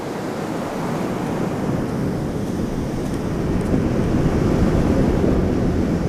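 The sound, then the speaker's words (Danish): Waves break offshore in cascades of white foam and wash steadily onto a sandy beach, covering it with a shiny layer that sinks into the sand with a sizzle; a continuous broad roar of surf with hissing foam, holding a fairly even loudness throughout with no voices. “Så slår de ind over strandbredden og dækker den med et blankt lag, der forsvinder ned i sandet med en syden.”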